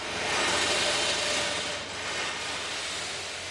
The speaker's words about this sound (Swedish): Nu kör vi med en borrmaskin och vi har valt att bygga en tät tunnel med betongelement invändigt så det blir ett tätt rör.